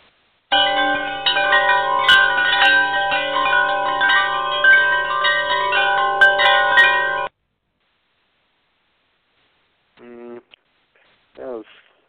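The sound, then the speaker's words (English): A wind chimes sound effect from an audio file rings in a dense, shimmering cluster of overlapping metallic tones for about seven seconds, fairly loud, then stops abruptly before a voice briefly speaks. “It's supposed to be wind chimes.”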